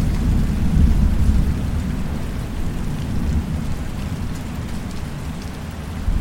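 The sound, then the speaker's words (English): A steady, heavy downpour hisses throughout while deep thunder rumbles low and continuous beneath it, swelling slightly near the start. No voices, just the storm. “Away from the storm.”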